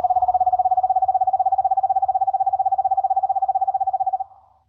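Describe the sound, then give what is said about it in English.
A screech owl gives a long, steady trill: rapid even pulses on one mid-high pitch, held for about four seconds before trailing off, with a faint low rumble underneath. “Then we have the screech owl.”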